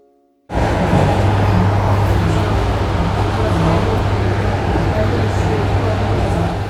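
Steady, loud rumble from inside a moving electric commuter train carriage, heard in the evening on the ride home from a dacha. A constant low droning hum with rattling noise and faint indistinct murmuring underneath, continuing unbroken after a brief silent start.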